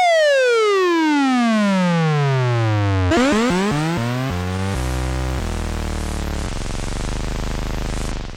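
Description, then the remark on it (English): A loud Moog synthesizer tone sweeps steadily downward like a falling siren, then breaks into quick stepped pitch drops before settling into buzzy, sustained electronic chords. No voices. “Oh, my God, look what you've done to my synthesizer.”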